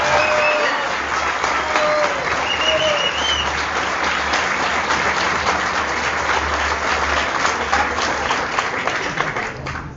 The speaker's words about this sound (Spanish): otra vez por el aplauso.